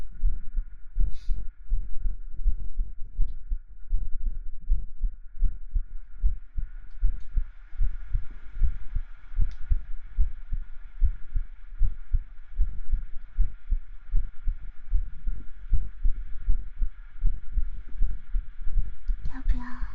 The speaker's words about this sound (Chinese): 像你姐姐的心跳，长得像就算了，心跳都不像。